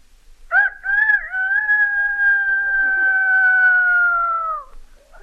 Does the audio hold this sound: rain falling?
no